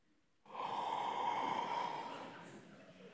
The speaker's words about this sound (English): One more. Yawns are contagious, aren't they? No one knows why. It's a great mystery of psychology, why yawns are contagious, why your jaw feels this tension, why in a moment we'll pray and you'll rip a big yawn and feel such relief.